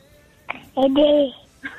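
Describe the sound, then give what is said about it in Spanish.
A baby babbles briefly over a thin, tinny mobile phone line, the phone held up to the baby: one short high-pitched coo-like vocalization, framed by a couple of faint clicks or breaths before and after. “Arrímale el celular al bebé a ver si quiere decirle algo a su mamá.”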